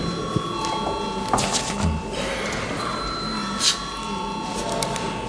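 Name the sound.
parliamentary voting bell ringing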